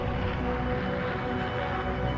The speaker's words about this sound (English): An airplane takes flight.